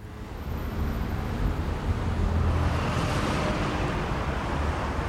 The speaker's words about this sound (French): Circulation de voitures qui roulent tout feu allumé.